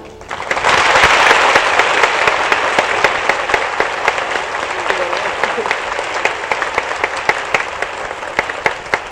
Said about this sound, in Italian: Con gli applausi, anche perché poi mi piaceva anche l'applauso.